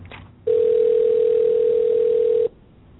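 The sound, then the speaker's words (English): A steady, unbroken telephone dial tone hums loudly for about two seconds, then cuts off abruptly, with only faint line hiss before and after. “At least you learned how to hang up the phone before it got to the point where”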